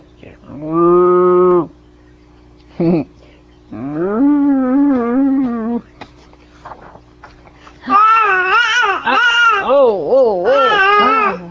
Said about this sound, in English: Chewing there. Look at the cow.